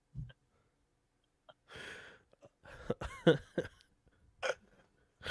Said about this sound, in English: I let out a gnarly burp. I didn't even notice. It was like right while you were talking. I was like, oh, excuse me.